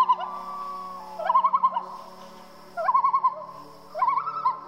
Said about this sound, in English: When we pretended we went camping, we roasted a marshmallow over a bunch of tea lights in our living room, and I played … on my phone.